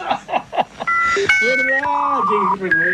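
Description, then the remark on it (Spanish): A voice imitates a dial-up modem connecting to the internet: a few quick clipped syllables, then sustained, wavering electronic-sounding tones that step between pitches, loud and continuous for about two seconds. “Así nos conectamos a internet.”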